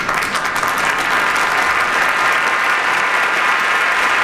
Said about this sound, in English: Good applause there.